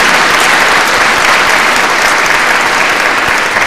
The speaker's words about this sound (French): Alors, ce soir, ce même Jésus, il est là au milieu de nous. Applaudissons-le, ce Jésus merveilleux. Il est là.